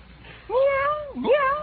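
A voice imitates a cat meowing twice in quick succession: a drawn-out, wavering meow followed by a rising one, fairly loud, with no other talking.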